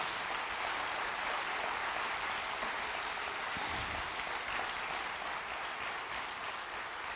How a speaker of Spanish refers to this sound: Faltó darle el aplauso al Señor. Gracias, Señor.